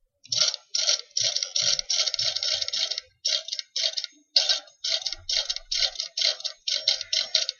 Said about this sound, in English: That's a typewriter.